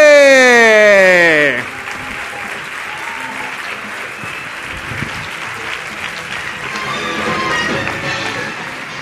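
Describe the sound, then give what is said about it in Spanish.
A short tonal swell cuts off, and an audience breaks into loud, steady applause for the presenter that continues for several seconds, swelling slightly again toward the end. “Así que démosle un fortísimo aplauso a nuestro presentador.”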